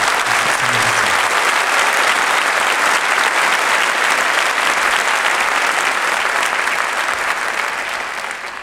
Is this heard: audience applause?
yes